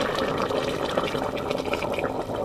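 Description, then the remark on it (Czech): Hot water pours steadily into a pressure cooker over meat rolls browned in melted lard, a continuous gurgling splash with bright bubbling detail that holds at an even volume throughout, with no voices. “Pak zalijeme horkou vodou.”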